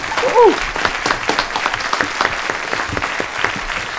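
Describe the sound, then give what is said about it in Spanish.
A burst of applause from a small group for the discussion panelists, dense overlapping claps filling the whole stretch at steady volume, with a brief whistle or cheer near the start. “Un aplauso para nuestros contertulios, por favor.”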